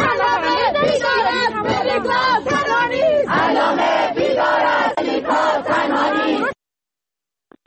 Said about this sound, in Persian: همچنین دانشجویان دانشکده ادبیات دانشگاه علامه هم در اعتراض انتقال ملیکا قرقوزلو به بیمارستان روانی امین‌آباد با شعار علامه بیدار است ملیکا تنها نیست در محیط دانشگاه تجمع کردن. میتونیم صداش رو بشنویم.